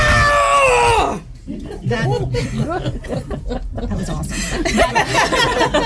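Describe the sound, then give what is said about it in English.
A woman lets out a loud, high-pitched shriek that lasts about a second and slides downward in pitch, then gives way to people talking and chuckling. “Well, Mrs. Nobody shrieks so loudly.”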